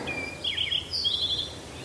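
Birds sing in high, bright chirps and warbling trills, a few quick phrases rising and falling over a soft, steady background hush, with no voices, in the Linville Gorge Wilderness in North Carolina toward evening.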